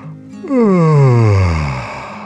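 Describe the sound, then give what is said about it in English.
A person gives a long, drawn-out vocal yawn, fairly loud, its pitch sliding steadily downward over about two seconds before trailing off. “The dragon stretched and yawned.”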